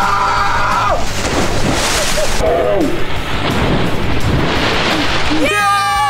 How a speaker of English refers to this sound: That was the biggest splash we've gotten all day.